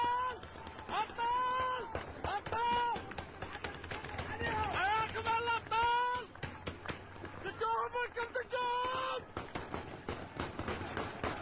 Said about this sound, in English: Listen to that. It sounds like automatic gunfire, doesn't it, folks?